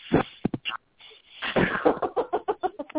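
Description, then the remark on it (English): Breath rushes straight into a microphone as harsh, noisy puffs: a few short bursts, a brief pause, then a longer run of quick, uneven huffs, fairly loud throughout. “Breathing through the microphone.”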